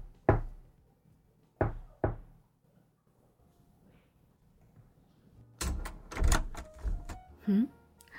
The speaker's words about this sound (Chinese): 你可以走到门前，先用力的敲三下，然后再轻轻的敲两下，她就会开门了。